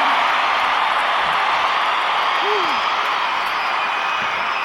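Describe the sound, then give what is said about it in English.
A crowd at a parade podium applauds Chuck Knobloch steadily and loudly for the whole stretch, a dense unbroken wash of clapping and cheering, with one brief whoop rising out of it midway through. “The applause right now for Chuck Knobloch.”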